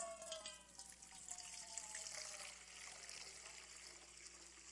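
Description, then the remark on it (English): Water runs and trickles steadily into a baptismal font, with a faint splashing texture throughout. The sound is soft and continuous, with no speech over it. “You know, it might be dipping our hands in this water today.”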